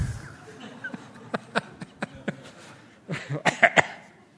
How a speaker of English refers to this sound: Please don't make me laugh. I've got a bit of a cough. I'm going to die telling this story. I'm going to asphyxiate myself.